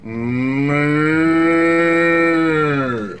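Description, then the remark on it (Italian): A very large, all-black bull with long horns lets out one long, loud, low moo, holding a steady droning pitch for about three seconds before tapering off. No one speaks. “Era un toro.”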